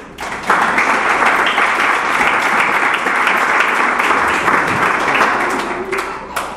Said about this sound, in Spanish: Un aplauso a nuestro compañero. ¡Aplausos!